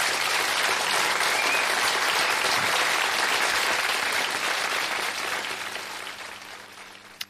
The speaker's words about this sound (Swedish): Vad skönt att få inleda med en applåd.